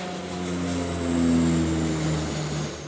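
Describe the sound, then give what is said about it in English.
A plane's engine roars steadily, a sustained droning hum with layered tones that swells slightly in the middle, as planes take off at Philadelphia International Airport, heard from the airport's economy parking lot on the other side of the fence. No one speaks. “Planes are taking off on the other side of the fence.”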